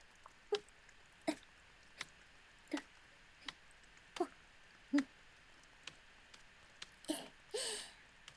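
Soft taps of a shoulder-tapping massage land one after another at a slow, steady pace, each a short muffled pat, ending with a brief brushing rustle; no one speaks.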